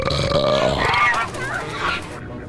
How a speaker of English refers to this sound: Bus driver, pull it over. I got a pie belch coming. It might break your windows.